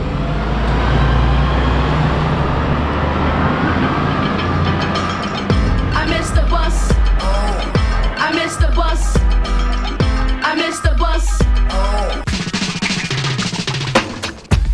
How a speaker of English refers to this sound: Stuck on a bus somewhere between East Oakland and Lake Merritt